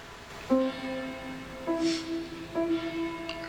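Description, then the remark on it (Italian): A church bell tolls three times at a slow, steady pace, each stroke ringing out with a long, humming decay that overlaps the next. No voices are present. “Sentite la campana.”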